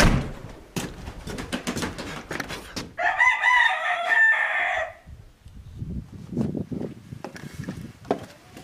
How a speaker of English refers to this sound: We are old-fashioned. We have chickens. Some of my chickens are very old. There's a hen there, 16 years old there. She still lays.